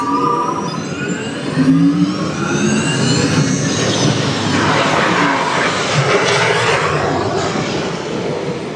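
A loud car engine revs and strains continuously, its pitch rising and falling over a steady roaring rush of noise, without any voices, during a SIM car off-road and extreme weather test sequence.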